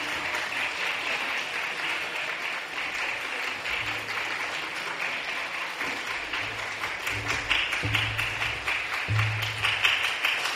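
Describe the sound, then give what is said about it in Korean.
A church audience claps steadily and continuously for about ten seconds in congratulation while flowers are handed out, a dense, sustained wash of many hands, with occasional low murmurs beneath. “자, 꽃 다 받을 때까지 박수를 치시기 바랍니다.”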